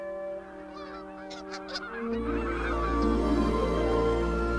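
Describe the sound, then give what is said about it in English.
A flock of geese flying overhead honks in a steady stream of loud, overlapping calls, while a deep rumbling background swells in about halfway through. “A flock of geese pass above.”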